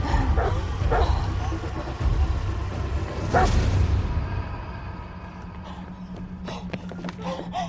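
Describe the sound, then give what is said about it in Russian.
A dog barks in a few sharp bursts over heavy low rumbling and whooshing commotion as it runs after a woman toward a trolleybus, then things settle to a steady hum with scattered clatters. “Анна сбегает к троллейбусу. Собака за ней.”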